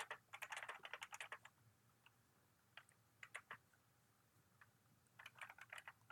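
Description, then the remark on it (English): Rapid clicks of typing on a computer keyboard while looking something up come in three quick bursts separated by brief pauses, fairly crisp, with no voices present. “You can, I'm sure, hear me typing.”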